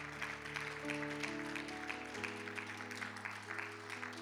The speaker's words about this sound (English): You heathens clapped and you startled the baby.